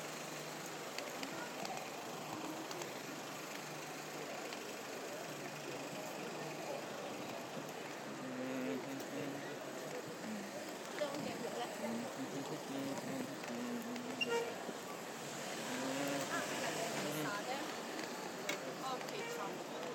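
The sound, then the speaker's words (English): A steady, dense rumble of queuing, idling and slow-moving vehicles heading towards Charing Cross Road fills a busy city street, continuous, with faint indistinct voices mixed into the background. “Lots of traffic queuing.”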